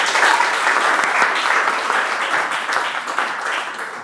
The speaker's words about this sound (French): Applaudissez pour elle, s'il vous plaît.